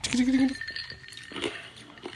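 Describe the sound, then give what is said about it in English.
Ice cubes clink against a glass holding a drink poured from a can, in a few short, bright taps spaced irregularly over a couple of seconds, preceded by a brief low humming tone at the start. “That ice sound.”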